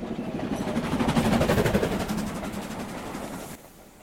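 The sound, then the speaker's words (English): A passing train rumbles steadily while its wheels clack rhythmically over rail joints in a quick repeating beat, swelling in the middle and then fading at the end. No one speaks. “your minds back to the days when you'd hear the telephone wires humming and a distant whistle of the approaching train, and then the clackety-clack of the wheels going over the railway joints as it passes, and that inimitable smell of steam and oil.”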